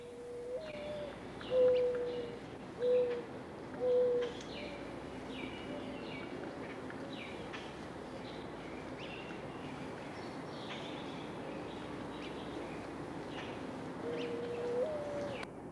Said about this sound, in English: Mourning doves can be heard calling in every month of the year.